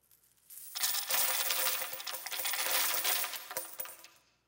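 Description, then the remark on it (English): A dense, sustained cascade of many coins, representing 50,000, pouring and clinking together for several seconds, loud, with no voices, tapering off with a few last jingles. “Here's what 50,000 would have sounded like.”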